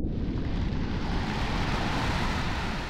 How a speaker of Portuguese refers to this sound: Aí começa a trovejar e a chover muito.